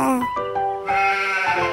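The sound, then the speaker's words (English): A hungry sheep in a Baby TV cartoon from Fox, in which Oliver the cartoon monkey feeds farm animals, bleats loudly, one long wavering baa that shifts pitch midway and carries on for nearly two seconds, with nothing else around it. “The sheep is hungry as well.”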